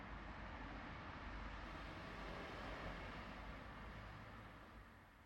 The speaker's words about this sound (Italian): Rumori di auto oltre il giardino.